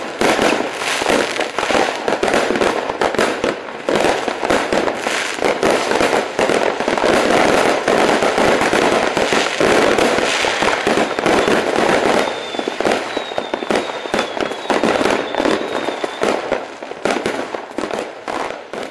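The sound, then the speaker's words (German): Dense, continuous barrage of firecrackers and rockets set off by fireworks igniting a petrol trail, bursting in rapid, irregular succession, loud throughout, with a few high whistling rockets streaking up near the end. “Bevor ein Angestellter der Feuerwerksfirma reagieren kann, zischen Böller und Raketen in wilder Reihenfolge in den Himmel.”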